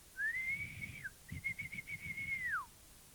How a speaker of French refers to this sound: L'agent se met à siffler.